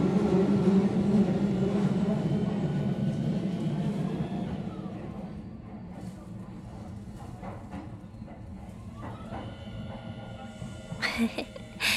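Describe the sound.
Steady low rumble inside a moving train carriage, loud at first then easing slightly, with faint mechanical whines and clicks rising near the end; muffled voices murmur underneath.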